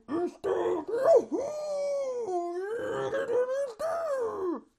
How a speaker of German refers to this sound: Entschuldigung, ich muss kurz in mein Kissen schreien.